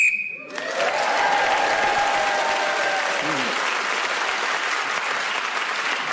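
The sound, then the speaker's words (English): A short, sharp whistle blast, blown to end a round of a game, sounds right at the start, quickly swallowed by loud, sustained applause from a large crowd that carries on to the end. “In this game, whoever is speaking when the whistle goes gains an extra point.”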